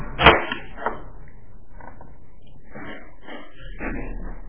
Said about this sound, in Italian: Che con tutti questi rumori in questi ci sono i bidoni dell'immondizia, credo che si giocano a pallone con.